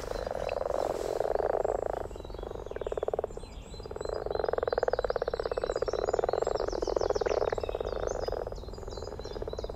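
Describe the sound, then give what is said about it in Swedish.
A dense chorus of common frogs gives low, purring croaks that overlap continuously and bubble softly, with a brief lull partway through. No voices are heard. “spela upp lite vanlig groda”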